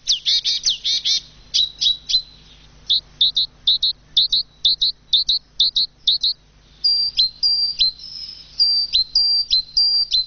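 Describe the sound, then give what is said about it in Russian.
Small birds chirp in quick, repeated bursts of high, bright tweets, with several calls overlapping and brief pauses between them, and no voices present. “Те же воробьи, которых у нас становится меньше и меньше, они будут этому очень рады.”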